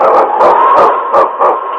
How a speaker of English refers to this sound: It's King, swiftest and strongest lead dog of the North Country, blazing the trail for Sergeant Preston of the Northwest Mounted Police in his relentless pursuit of lawbreakers.